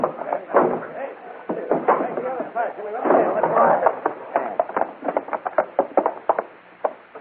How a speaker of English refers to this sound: Push the door in.